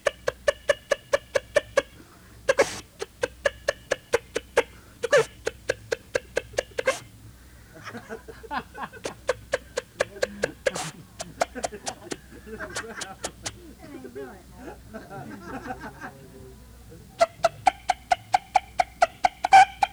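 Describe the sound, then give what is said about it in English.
A voice imitates a hen's cackle in rapid bursts of sharp, repeated clucks. The clucks run in fast rhythmic series broken by short pauses, loud throughout. “Let's hear you cackle a little for us then.”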